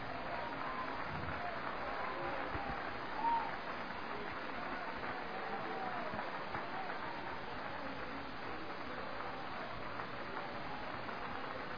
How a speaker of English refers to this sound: Would you clap again?